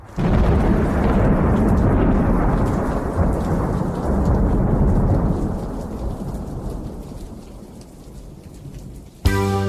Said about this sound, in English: Summer night, raindrops on the windshield, there's a storm moving in.